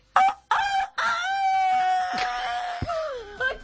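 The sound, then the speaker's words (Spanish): A woman's voice mimics a rooster crowing: two short clucking bursts, then a long, strained, wavering cock-a-doodle-doo held for a couple of seconds, loud. “esto que van a escuchar no es atreo sonido y sonido, es … haciendo el gallo”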